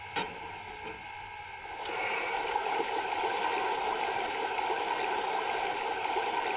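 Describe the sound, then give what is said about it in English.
Water rushes steadily into a steam locomotive's tender, a continuous gushing flow that grows fuller and louder after a couple of seconds, with a faint mechanical hum underneath and no voices. “We need to take on some water.”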